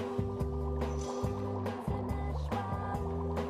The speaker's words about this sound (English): Bubbling ooze.